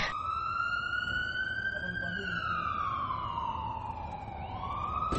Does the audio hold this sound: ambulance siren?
yes